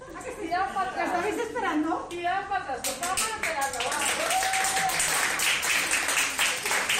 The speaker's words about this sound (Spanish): Estos son los aplausos del equipo de la UCI del Hospital Vitas de Valencia